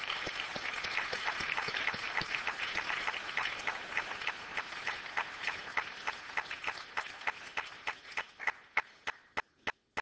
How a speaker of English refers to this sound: In fact, I think we ought to give him an applause.